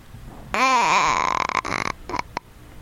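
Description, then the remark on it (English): A person's voice imitates a goat's bleat: one loud, wavering, nasal cry of over a second with a shaky, quavering pitch, followed by a couple of short, choppy vocal bursts. “Hey, what did the goat sound like?”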